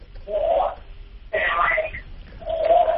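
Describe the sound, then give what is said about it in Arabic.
A television plays in the background of a phone call from a woman caller in Iraq, its tinny, narrow-band voices coming through in three moderately loud bursts with brief gaps between them. “وكلميني من الهاتف، دع التلفاز جانبا، أرخي التلفزيون”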